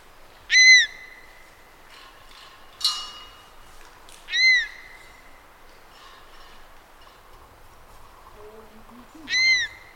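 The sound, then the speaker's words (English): An adult female honey buzzard's alarm call in flight: three loud, high, whistling cries spaced a few seconds apart, each with a slightly bending pitch, with faint rustling and knocking sounds in between from team members climbing the tree. “the following day the chick was caught and ringed, enabling me to record the alarm call of the adult female in flight.”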